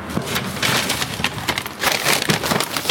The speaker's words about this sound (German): Tüte aufgerupft. Oh, hier ist ein Haufen Zeug drin.